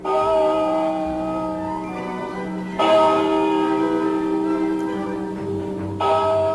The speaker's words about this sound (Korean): 이튿날 아침 주일학교 수업 시간이 끝나자 보통 때와는 다르게 장례식을 알리는 조종이 울려 퍼지기 시작했다.